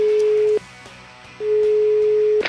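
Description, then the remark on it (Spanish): A phone ringback tone while calling a mobile phone: two steady, mid-pitched beeps, one short and one longer with a gap between them, sounding over faint background noise. “Vamos a marcarle al celular.”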